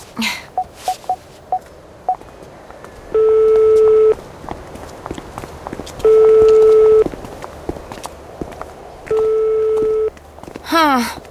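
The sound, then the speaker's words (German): A quick series of short dialing beeps as someone calls a friend on a mobile phone, then the ringing tone repeats three times, each steady buzz lasting about a second with long gaps, left unanswered. “Ja, ruf ihn noch mal an.”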